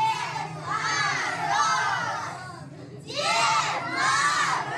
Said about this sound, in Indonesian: Kantor pos yang terletak di Central Children's Store di kawasan Lubyanka itu diresmikan sendiri oleh Father Frost yang datang ke toko itu dengan menaiki kereta kuda. Kedatangannya disambut meriah oleh anak-anak.